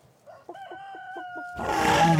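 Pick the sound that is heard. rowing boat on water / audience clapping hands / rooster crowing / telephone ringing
rooster crowing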